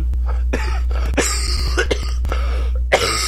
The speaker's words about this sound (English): I'm still having a little cough here and there, but I should be fine.